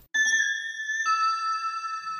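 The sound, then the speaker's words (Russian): A small bell chimes twice, the second strike landing a moment after the first on a different pitch, both notes ringing out clear, sustained and moderately loud. “Но есть и менее какие-то чернушные примеры, когда, например, появляется маленький комарик, или когда появляется воробей, или когда вообще появляется какое-то спасение, там совсем другой звучок такого колокольчика.”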